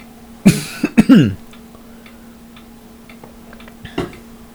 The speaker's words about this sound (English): Also cough into the microphone a lot.